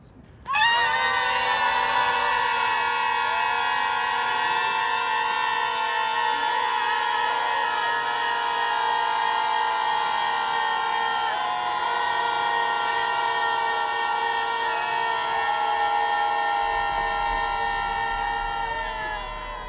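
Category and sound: crowd, protest crowd screaming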